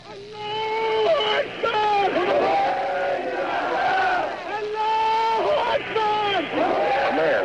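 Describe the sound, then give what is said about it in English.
A large crowd at a mass street demonstration in Tehran chants slogans in loud, rhythmic unison, voices rising and falling in repeated phrases that continue steadily throughout, forceful; a raspy-voiced man yells "Allah is great" and men, women and children respond "Khomeini is great." “Days of whiskers on his face, a mouthful of gold caps, and a raspy throat yells, "Allah is great." And around him there are men and women garbed in black from head to toe, along with some children who respond, "Khomeini is great."”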